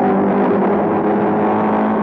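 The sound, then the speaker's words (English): The engine of a Ford Mark IV race car, the winning car, in France in June 1967, roars loudly and steadily, a dense sustained drone with a strong low hum running through it, with no voices. “You're listening to the car that won, the Ford Mark IV,”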